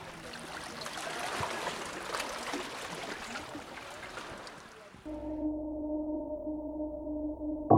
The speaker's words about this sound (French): On entend un dernier bruit des vagues pour la fin de cette interview.